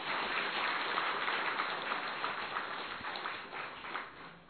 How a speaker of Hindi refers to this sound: जो यहां बैठे हैं उनों को मिला है, ताली तो बजाओ जरा।